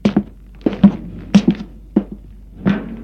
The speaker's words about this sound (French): L'on frappe à la porte.